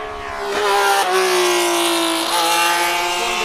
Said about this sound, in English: You can probably hear the cars. There's a car display in the background.